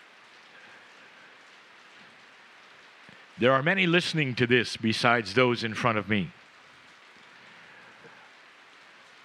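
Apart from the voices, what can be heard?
rain falling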